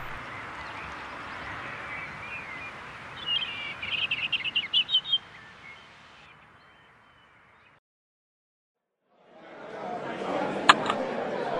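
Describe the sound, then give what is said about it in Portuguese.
A bird sings a quick run of bright, repeated chirps over a steady noisy outdoor background, then the sound cuts out briefly before the ambience returns with one more sharp call. “Será este aquele que eu procuro? O canto perfeito do meu pássaro perfeito?”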